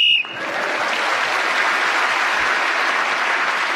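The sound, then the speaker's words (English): A short, shrill whistle blast at the very start ends a round of a panel game, then steady, loud applause from an audience takes over and carries on to the end. “it was again speaking as the whistle went, gained that extra point of others in the round.”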